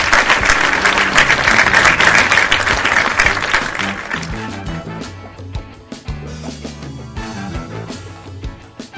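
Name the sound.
collective applause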